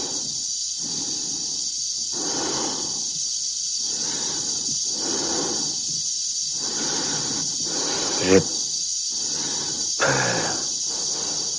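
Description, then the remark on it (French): Heavy, laboured, oppressive breathing of the cosmonaut Dave repeats in a slow, steady rhythm of inhales and exhales, loud over a constant airy hiss, with a couple of brief sharper sounds near the end. “La respiration oppressante que l'on entend derrière, c'est celle de Dave, hein, du cosmonaute.”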